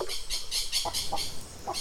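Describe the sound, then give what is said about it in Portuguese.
Chickens clucking and chattering in quick, repeated bursts as they are being tended, with several overlapping calls at a steady moderate level and no voices. “Vamos lá ajudar minha mãe a tratar das galinhas.”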